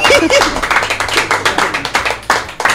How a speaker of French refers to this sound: En tout cas, on applaudit notre invitée,